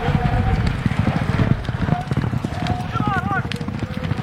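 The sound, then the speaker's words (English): Horses gallop past in an Indian Relay race on a half-mile track, a rapid, thundering drumming of hooves, loud, over a noisy backdrop of crowd sound and indistinct voices, with a brief whistle-like tone near the end. “These horses are able to run like you wouldn't believe.”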